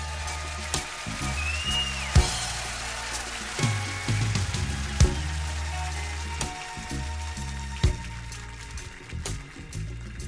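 Audience applause, a dense, steady crackle of many hands clapping with a few sharper, louder hits, over a low sustained musical hum; no one speaks.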